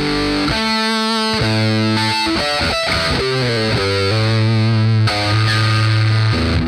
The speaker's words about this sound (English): Then there's my favorite discontinued distortion pedal from Tech 21, their Comp Torsion.